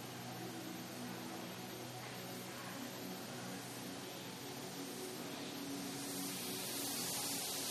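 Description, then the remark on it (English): A long, steady hiss of breath drawn in through the teeth during a cooling breathing exercise, airy and continuous for several seconds, with a faint low hum underneath and no talking. “The hissing one is louder than the curled tongue one.”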